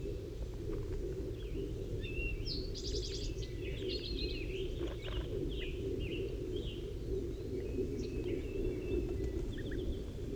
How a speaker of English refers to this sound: Oh, one of the wild birds is coming in now. I just saw it land in the pine tree. 5-3 is calling to it.